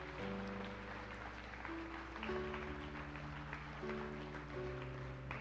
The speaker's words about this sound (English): If you prayed that prayer today and you meant it, we say, welcome to the family of God. Let's give them a hand clap, yeah?